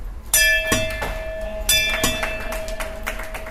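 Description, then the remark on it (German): A golden bell beside the exit door of a proton therapy centre is struck several times by a patient after their final radiation treatment, two strong ringing clangs with a few lighter hits between, its bright metallic tone hanging and slowly fading between strikes, with no talking. “hängt neben der Ausgangstür eine goldene Glocke, die jeder Patient nach seiner letzten Bestrahlung läuten darf.”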